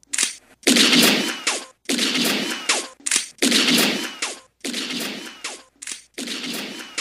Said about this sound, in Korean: 그리고 여섯 발의 총성이 울렸습니다.